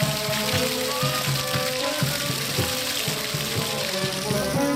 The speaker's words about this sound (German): Es ist Samstagabend, da kurz vor der 6. vor dem Gemeinschaftszentrum Riesbach, und am Plätzli mit dem laut plätschernden Brunnen tut sich einiges.